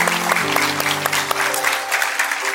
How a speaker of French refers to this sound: Est-ce qu'on peut applaudir notre Dieu qui restaure, qui change?